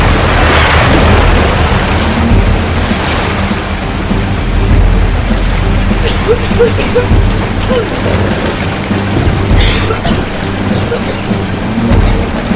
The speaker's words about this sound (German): Scheiße! Das ist ja noch heftiger draußen, als ich gedacht habe. Wir müssen die Segel verkleinern, sonst reißt der Sturm das Boot um. Pass auf, die Welle!